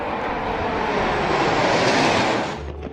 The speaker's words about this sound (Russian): Изюминкой мероприятия стал пролет над Елисейскими полями истребителей, которые нарисовали в небе полосы в цветах французского флага.